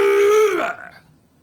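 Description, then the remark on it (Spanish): A voice imitates a classic car horn with one loud, steady, buzzy tone held for about half a second before it bends downward and cuts off, leaving quiet. “Hago la clásica.”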